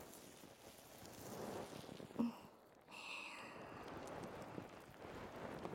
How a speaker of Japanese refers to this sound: 泡がシャワシャワって音させながら、ヌス様のお耳を包んでいきますな。どうでっしゃろか。